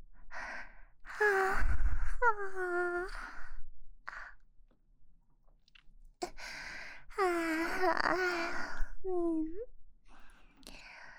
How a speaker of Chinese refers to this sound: 哈欠这种东西也是会互相感染的哦。